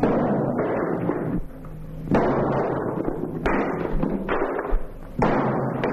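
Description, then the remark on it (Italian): Heavy, booming sledgehammer blows strike over and over at an uneven pace, each followed by a rough crumbling rush of noise, like masonry breaking apart, as a worker knocks down a wall that had bricked up old toilets, in a Fantozzi scene. “Il muro viene abbattuto.”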